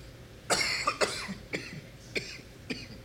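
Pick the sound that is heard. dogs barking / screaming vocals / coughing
coughing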